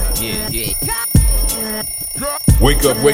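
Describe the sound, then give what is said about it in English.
A voice loudly imitates an alarm clock ringing, with warbling, siren-like vocal sweeps and sharp bursts repeating over a few seconds, insistent, as a human alarm clock to wake people up on a Saturday. “This is your alarm clock, your human alarm clock.”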